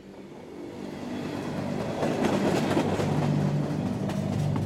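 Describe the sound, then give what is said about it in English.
A train trundles steadily along the tracks through Millersburg, Oregon, on a cold, windy December night, a continuous low roar with faint rhythmic clatter and brief high squeals, growing slightly louder throughout. “On a deathly cold December night in 1995, harsh winds rattled the walls of a train trundling through Millersburg, Oregon.”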